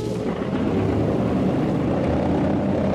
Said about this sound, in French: Les moteurs sont lancés. Et l'avion, pivotant tout doucement sur lui-même, roule lentement d'abord, accélère ensuite et disparaît rapidement dans la nuit.